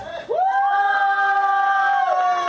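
audience applause and cheering

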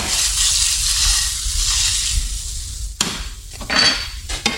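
butter sizzling

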